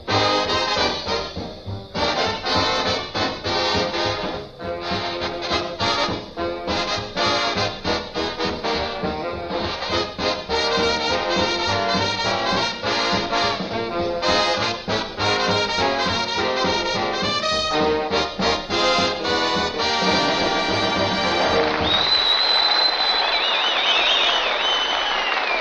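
An orchestra plays a lively, full-sounding song at a steady loud level with no voices, then the bass drops away near the end, leaving a held high note over a noisy wash.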